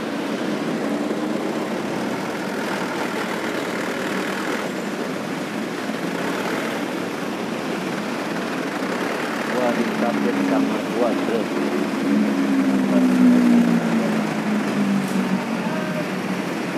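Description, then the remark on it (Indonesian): A motorcycle engine runs steadily throughout, a continuous droning rumble that grows slightly louder and more tonal toward the end, with some indistinct background noise. “Ini kadang udah lampu depannya mati dan dia motor-motoran di malam hari, fakdap, mantap, mantap, mantap, mantap.”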